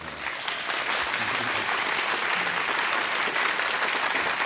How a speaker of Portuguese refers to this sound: E todas as noites, depois do espetáculo, quando o Fagundes lembra isso à plateia, na conversa, a reação é essa. Todo mundo aplaude.